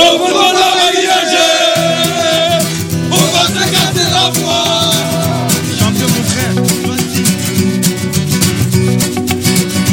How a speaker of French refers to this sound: les supporters parisiens qui avaient fait le déplacement ont chanté à en perdre la voix hier, sans perdre de vue l'objectif de décrocher dans deux semaines un deuxième titre européen consécutif.